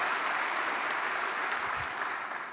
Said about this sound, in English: I'll take scattered applause, if you like.